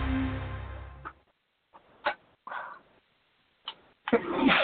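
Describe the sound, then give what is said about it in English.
A sudden sneeze bursts out after a fading rumble, followed by a few more short, sharp noises and a louder burst at the end; no one speaks. “Bless you.”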